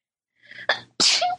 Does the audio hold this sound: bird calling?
no